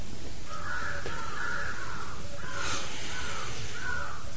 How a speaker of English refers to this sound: If you notice in the very early morning or in the evening, just at the twilight, the birds are all making so much noise.